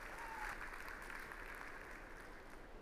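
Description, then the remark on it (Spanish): A church audience applauds God steadily, a dense wash of many hands clapping at an even level for about three seconds, with no one speaking over it. “Dale un aplauso fuerte a Dios, ¿sí?”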